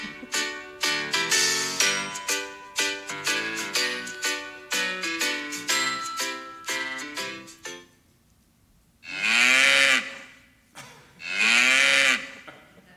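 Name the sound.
cow mooing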